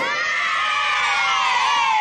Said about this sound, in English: Do like a little like confetti little kids like cheering thing after this, please.